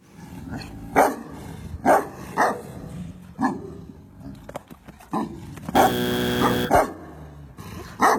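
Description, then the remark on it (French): A Tibetan Mastiff barks loudly, a series of booming barks spaced out over several seconds, followed by one long, drawn-out bark near the end. “C'est un mastif du Tibet”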